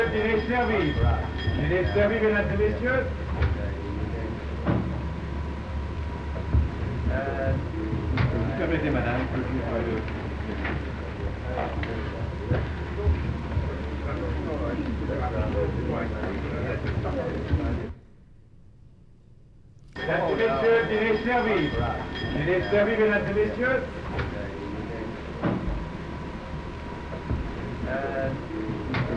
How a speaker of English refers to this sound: So again, that was a good scene with both footsteps and that very loud camera noise going back and forth.